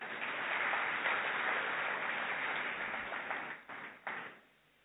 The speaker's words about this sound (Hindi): हाँ very nice, फिर तो ताली बजाइए।